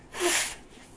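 A single short, breathy nose blow by a speaker during a talk, a burst of rushing air lasting about half a second before fading into quiet room noise.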